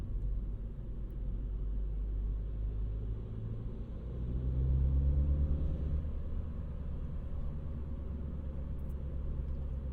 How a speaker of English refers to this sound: Yeah, just the quiet moments. We can just sit here and listen to the sounds of the car driving over the pavement, and we don't have to constantly be saying something in order to just be comfortable.